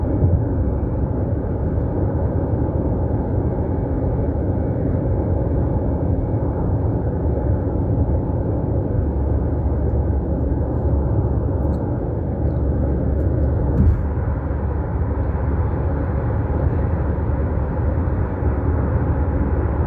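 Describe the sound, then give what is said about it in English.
Steady, loud highway rumble of heavy traffic, with a Mack truck's deep engine drone running continuously, with no voices present. “I'm kind of distracted because I'm on the highway and I got this Mack truck acting crazy.”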